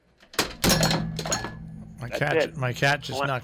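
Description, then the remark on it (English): A cat knocks a headset off a desk, making a quick burst of knocks and rattles with a sharp thunk, followed by a man starting to talk. “My cat just knocked off my headsets.”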